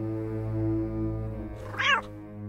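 A single short cat meow rises near the end, clear, over a steady low hum that runs through the whole recording. No one speaks.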